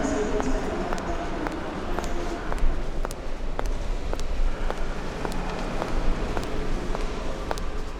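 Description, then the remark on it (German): Steady footsteps of a person walking from the train station at around 10 o'clock to a job interview, at an even pace, about two steps per second, against a constant wash of outdoor background noise, like a busy street. “laufe zu MDR”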